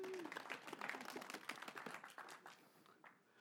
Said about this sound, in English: Round of applause for a sick person.